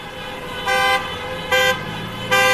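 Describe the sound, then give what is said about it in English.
Car horns honk in three short, loud blasts, each a bright, buzzy tone, rising over a steady rumble of traffic noise, as drivers sound their horns in support of several hundred people at a Christmas demonstration in wintry central Kyiv, Ukraine. No one speaks. “It's pretty noisy, as you can hear, drivers sounding their horns in support of the several hundred people who have gathered here in the wintry heart of Kyiv to stage a special Christmas demonstration in support of the thousands of Ukrainians who”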